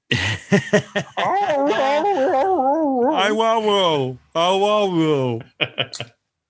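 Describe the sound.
A person pronouncing 'Aumaumau' in a way that mimics a dog trying to talk: a few quick yips, then long, warbling, howl-like vocal syllables that rise and fall in pitch, finishing with short sharp yelps. Fairly loud.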